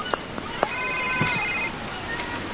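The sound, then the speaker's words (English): A phone rings with a steady electronic tone for about a second, mixed with a few sharp knocks and thumps over a noisy, busy background. “Oh, no. Where's my phone?”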